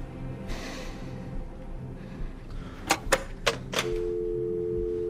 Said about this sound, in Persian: گوشی رو برمیداره. شماره 112 رو گرفت.